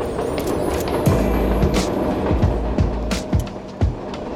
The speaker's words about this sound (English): The Hope Line is run out of a storefront, right underneath the 5 train, which rattles past every few minutes.